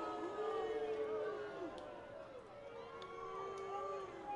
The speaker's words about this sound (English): Another run scores. Threshers make it 9-3. Fans booing.